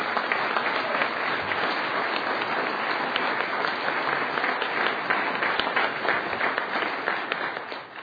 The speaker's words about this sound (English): If you would hold your applause for just a moment